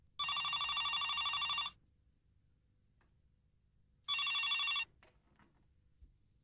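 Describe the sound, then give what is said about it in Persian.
A telephone rings twice with a bright, buzzing electronic trill, first a long ring of about a second and a half, then after a pause a shorter one, clear. “گوشی؟ علی با تو کار داره. یه خانمیه.”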